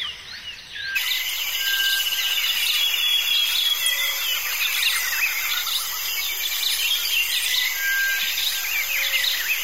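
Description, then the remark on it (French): A dense, noisy chorus of many birds calling and chirping at once at daybreak in a jungle valley, layered over steady insect buzzing, continuous and fairly loud, with no voices. “Les oiseaux sont bruyants aujourd'hui.”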